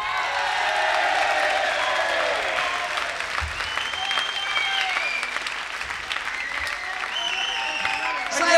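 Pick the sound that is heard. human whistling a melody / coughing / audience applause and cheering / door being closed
audience applause and cheering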